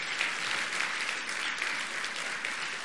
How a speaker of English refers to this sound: Let's give a big round of applause to all of those who worked behind the scenes to make today a reality.